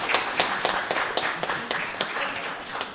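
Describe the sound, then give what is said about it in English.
A crowd applauds a student named Student of the Month at Claymont, a steady, dense wash of many overlapping claps with sharper individual hits poking through, sustained and fairly loud for the whole stretch. “but somebody in my family, and it wasn't me and it wasn't my wife, but they were named Student of the Month at Claymont this past month, so make sure you give him a big round of applause.”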